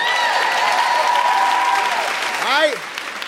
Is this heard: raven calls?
no